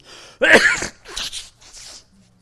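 A loud, close sneeze bursts out sharply, followed by two softer breathy exhalations trailing off, with no other talking around it.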